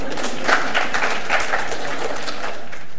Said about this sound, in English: Thank you very much. Round of applause.